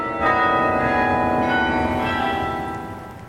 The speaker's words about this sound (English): you're passing Cove in County Cork and you hear the beautiful music coming from the cathedral, pause for a moment and listen to the bells that have been ringing out across the town for over 100 years.